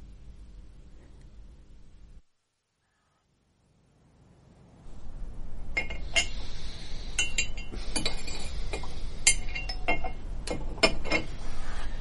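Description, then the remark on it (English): A spoon clinks repeatedly against a cup as tea is made at 4 o'clock in the morning, bright, irregular taps ringing over a steady hiss after a low hum and a brief silence. “Making tea.”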